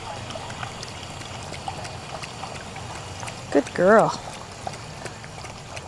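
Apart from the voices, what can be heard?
water being poured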